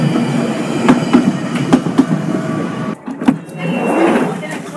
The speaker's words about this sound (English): Next station is East Finchley. This train terminates at Kennington by Charing Cross.